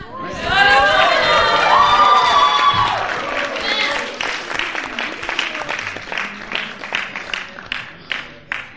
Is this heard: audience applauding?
yes